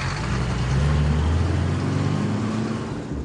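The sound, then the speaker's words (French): Heavy armored vehicle engines rumble steadily as a police convoy, led by a car carrying police armed with submachine guns, pulls into traffic, their low drone shifting in pitch over a constant wash of road noise, with no voices. “Les portes du véhicule se referment dans un claquement de métal, et précédé d'une voiture à bord de laquelle se trouvent d'autres policiers armés de pistolets mitrailleurs, le convoi prend sa place dans la circulation.”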